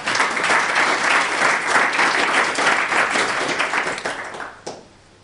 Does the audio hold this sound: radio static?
no